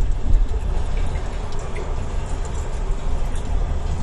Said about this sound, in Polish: Pada deszcz, prawda?